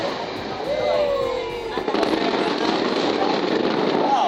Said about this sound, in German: Der Malteser liebt sein Feuerwerk. Es ist fester Bestandteil der Kultur des Inselarchipels. Eine Festa ohne Feuerwerk? Undenkbar. Gleich ob religiöser Feiertag oder weltliches Fest, die Knallerei gehört dazu